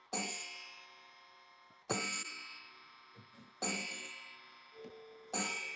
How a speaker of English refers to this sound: Sounds like an Admiral clock.